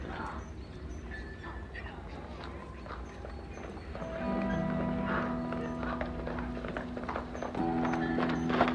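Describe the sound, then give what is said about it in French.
Horse hooves clip-clop in a steady walking rhythm in town, mixed with a busy background of murmuring voices and a sustained droning tone that swells partway through. “Je m'occupe de votre cheval ?”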